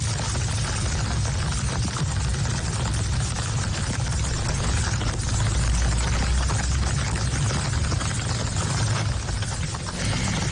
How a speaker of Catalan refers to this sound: Aigua abundant, també la que va caure ahir a Cardona, que serà el següent tall que escoltarem. Bé. Això és el Bages, amb tanta força que al caure a terra, saps, la pluja, pava, feia bombolles. Escolteu.